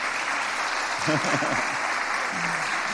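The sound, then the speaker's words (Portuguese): Sustained applause from a crowd honoring pastors' wives, a steady dense patter of clapping throughout, with a brief voice speaking over it partway through. “e eu queria que você honrasse a vida delas com uma salva de palmas.”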